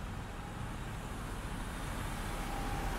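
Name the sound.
car driving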